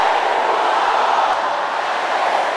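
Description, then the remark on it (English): A large crowd shouts together in one sustained, dense roar that holds steady and loud for the whole stretch, with no single voice standing out from the mass, as it is asked to shout a prayer against every power that hates their happiness. “Every power that hates my happiness, can I hear you shouting that?”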